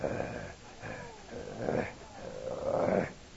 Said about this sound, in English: And then you hear this low guttural growl.